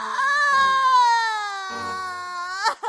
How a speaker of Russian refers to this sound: И начала умная Эльза плакать и причитать. Вот сидит она и плачет, изо всех сил причитает по поводу предстоящего несчастья.